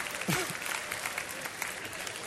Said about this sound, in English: Come on. If you can identify with that, come on, let me hear you clap your hands.